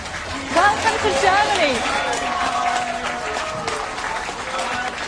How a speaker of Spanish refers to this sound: Los recibieron con aplausos a esta gente que ha sufrido la guerra, a esta gente que no tiene techo, a esta gente que lleva semanas intentando que alguien tenga algo de compasión con ellos.